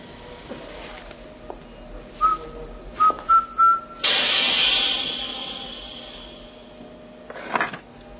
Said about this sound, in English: whistle the first bars of Rue Britannia.